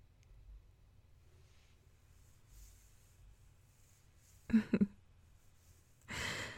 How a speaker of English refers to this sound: Anyways, baby, come on. Just focus on my breathing instead. Let's go to sleep like this.